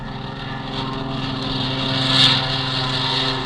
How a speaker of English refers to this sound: The Colonel's flight took off first.